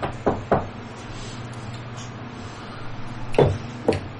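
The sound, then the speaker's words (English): Two quick knocks on a door, the door of the character Akra in a role-playing game, a pause of nearly three seconds, then two more knocks, sharp over a low steady hum. “I think I'm going to go to Akra and knock on her door.”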